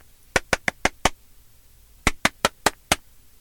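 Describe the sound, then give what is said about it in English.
Someone knocks on a bathroom door in two quick bursts of five sharp raps, with a brief pause between them. The knocks are crisp and fairly loud, and no one speaks. “Susan runs upstairs and knocks on the bathroom door.”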